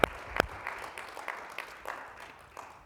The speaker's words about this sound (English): Let's give our baby church, Jacksonville, Florida, a good clap offering here this Sunday morning. Amen.